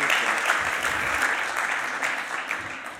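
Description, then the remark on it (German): Steady applause from a crowd for a group of boys, with birthday wishes, during a church session, a dense crackle of many hands clapping at an even, fairly loud level throughout, tapering slightly at the end. “Okay, Applaus für die Jungs.”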